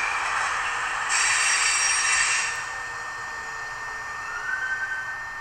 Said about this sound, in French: Donc là, je peux aller en arrière. On va faire arrêter juste devant nous. Avec le bruit qu'on passe sur les aiguilles.